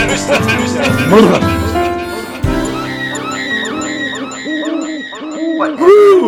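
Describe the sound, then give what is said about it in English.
A person imitates an owl, voicing a quick series of rising-and-falling hoots, following a brief burst of other sound at the start. “We're owls. We're talking owls today.”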